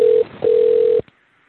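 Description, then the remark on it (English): An outgoing phone call rings over a telephone line: a steady mid-pitched ringback tone sounds briefly, pauses, then returns for about half a second before cutting off into silence. “And calling.”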